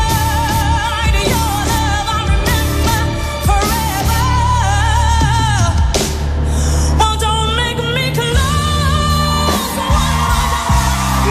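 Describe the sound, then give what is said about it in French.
A loud live audience at a singer's tribute concert cheers and whoops, with sustained belting vocals and music ringing through the crowd noise for the whole stretch. “Comme le public, je crie wouhou!”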